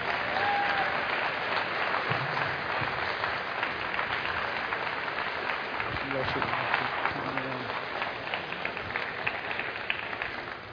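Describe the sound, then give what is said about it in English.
Sustained audience applause welcoming the Reverend Billy Graham fills the whole stretch, a dense, steady wash of many hands clapping at even loudness, with faint crowd murmur mixed in. “Would you give a big clap off for Billy Graham?”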